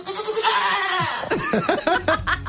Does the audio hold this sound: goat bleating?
yes